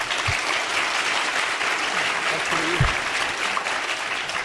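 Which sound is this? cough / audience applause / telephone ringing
audience applause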